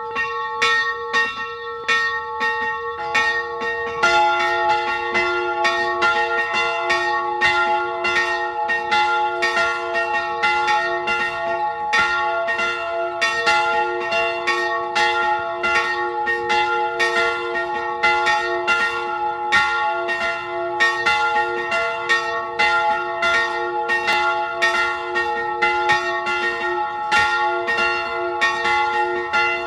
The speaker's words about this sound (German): Es ist 12 Uhr. Sie hören die Glocken der Filialkirche St. Georg in Tippitsch in Kärnten.